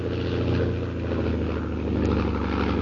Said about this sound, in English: As Jim approaches his camp, a fast plane roars over his head.